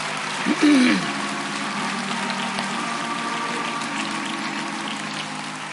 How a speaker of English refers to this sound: Come on, let's give him another hand clap.